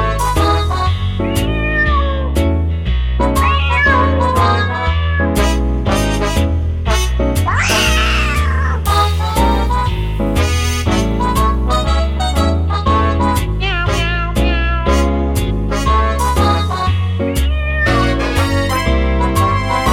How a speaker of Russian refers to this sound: Коты вопили, танцевали